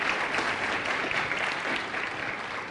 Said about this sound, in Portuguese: Aleluia, uma salva de palmas. Você pode agradecer a Jesus.